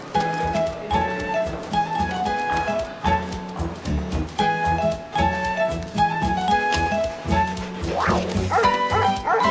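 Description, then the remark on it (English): A fire dog at a fire station barks and yips excitedly in quick, repeated bursts, loud, with a few whiny yelps mixed in over a steady background. “He's a fire dog. He sniffs out fires to make sure that we've put them all out.”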